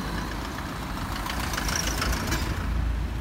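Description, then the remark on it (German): Heavy cars bearing logos of international organisations rumble and idle as they push through the streets in front of a hospital, a steady low engine drone with some clattering and hiss of traffic noise throughout. “Vor dem Krankenhaus schieben sich schwere Autos mit den Logos der internationalen Organisationen durch die Straßen.”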